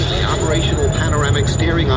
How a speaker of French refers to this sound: J'envoie un drone avec un centre de commandement qui pilote le drone. Voilà, on est à bord du drone comme dans un jeu vidéo. On survole un paysage un peu aride.